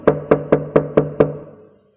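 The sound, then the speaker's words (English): Six firm, evenly spaced knocks on a door by a man in a corridor, fairly loud, each with a hollow wooden ring that lingers and fades after the last one. No voices. “She didn't answer, so he knocked again, louder.”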